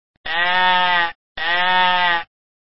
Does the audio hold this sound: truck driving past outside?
no